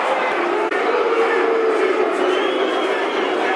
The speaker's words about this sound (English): Mill players speaking to the referee, crowd howling as you can hear.